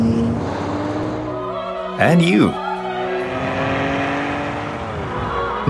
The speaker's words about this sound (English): A sports car for you. A sports car that's also for you.